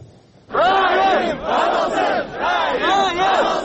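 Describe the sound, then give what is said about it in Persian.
A protest crowd gathered outside the parliament building in Bishkek, Kyrgyzstan, demanding the arrest of a senior customs official, shouts together in loud, rhythmic bursts, many voices rising and falling in repeated chant-like waves that continue steadily for several seconds. “Таҷаммугарон баъд аз шӯрпартоӣ ва ҷамъоварии имзо пароканда шуданд.”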